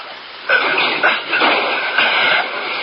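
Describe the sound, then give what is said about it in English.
A garage door rumbles and rattles shut, a steady grinding roll with rhythmic clattering bursts that kicks in after a brief quiet start and holds at a fairly loud level. “Well, let's get the garage door shut.”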